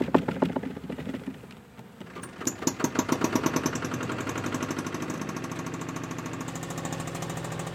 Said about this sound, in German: schmeißt den Schweizer Bergtraktor an und dann fahren wir zurück zur Genusshütte.